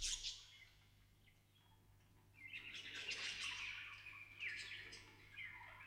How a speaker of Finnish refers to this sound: yksityisessä salissaan, missä monet linnut visersivät häkeissään siivet leikattuina.